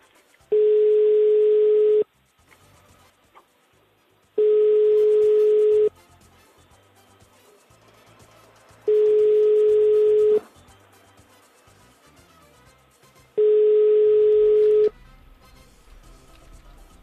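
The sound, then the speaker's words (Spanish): A telephone ringback tone sounds four times, each burst about a second and a half long with pauses of a few seconds between, steady and unanswered, with faint background noise and no talking. “Yo creo que esta llamada no va a ser posible, porque son muchos tonos ya, ¿no?”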